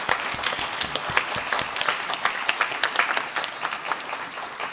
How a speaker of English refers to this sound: For those front of house and those back of house who have made today possible, for all those that have spoken, played, made, I think we just need to give everyone a huge thank you and a huge round of applause.